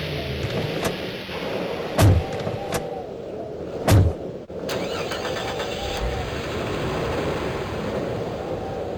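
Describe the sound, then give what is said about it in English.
Several jeep doors slam shut in quick succession, two landing especially hard, then an engine rumbles to life and the jeep steadily pulls away, its drone lingering, as three men drive it back towards the guardhouse. “You three! Take your jeep back towards the car in the guardhouse!”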